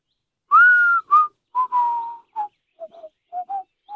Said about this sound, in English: He started to whistle.